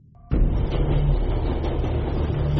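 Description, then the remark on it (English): A brief faint tone gives way abruptly to a loud, steady rumble of a train running on rails on a cross-continental journey from New York to New Mexico, a heavy low roar with a humming drone that continues unbroken to the end. “Klaus Fuchs has embarked on a cross-continental train journey from New York to New Mexico”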